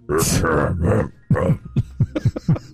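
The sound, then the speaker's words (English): A man loudly clears his throat into his microphone in a studio: a raspy, noisy burst followed by a string of short guttural rumbles and grunts, distorted and booming. “He could have moved his mic just a little bit when he tried to clear his throat.”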